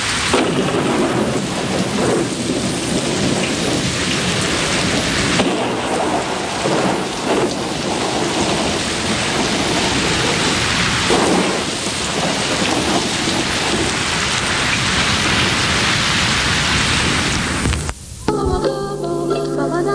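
Heavy, steady rain pours continuously at close range, a dense hiss with low rumbles of thunder rolling underneath. No one speaks, and the downpour cuts off abruptly just before the end.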